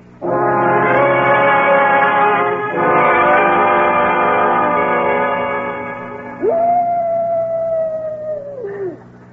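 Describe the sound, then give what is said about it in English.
A coyote howls from a canyon in long, sustained, wavering cries, loud and alone, with a rich harmonic tone that rises, holds a high note, then slides downward at the end. “What was that? Just a coyote. Sounded like it came from the canyon.”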